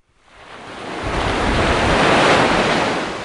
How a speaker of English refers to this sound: It's a little windy here on Khao Lak Beach in Phang Nga Province.